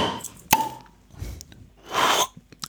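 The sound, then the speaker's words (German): A bottle of sparkling apple drink pops open with one sharp crack, followed a moment later by a brief burst of hissing fizz and a few faint clinks, no voices. “Und jetzt wird man schon das Besondere hören. Man wird es hören. An diesen Flaschen.”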